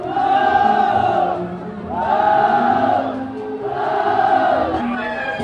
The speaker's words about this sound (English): So the provincial leaders are arriving, and all this clapping and cheering. This really feels like a sort of propaganda exercise from the 1960s.